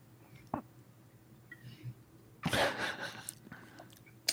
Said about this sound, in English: Yo, take a sip of N real quick. The original sugar, Dr. Pepper.